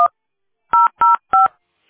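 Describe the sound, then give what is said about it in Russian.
Telephone keypad DTMF tones on a call to the Teploenergosbyt SPB company phone line: a clipped beep at the start, then three clear, loud dual-pitched key presses in a steady rhythm, with silence between them and no voices. “Если вы знаете внутренний номер сотрудника, наберите его. Или оставайтесь на линии.”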